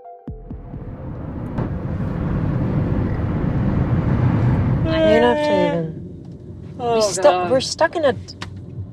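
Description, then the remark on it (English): A steady rumble of idling engines and slow-moving traffic in a huge traffic jam, followed by a couple of short bursts of people talking over the fading vehicle noise. “We're stuck in traffic, and it's just a huge jam.”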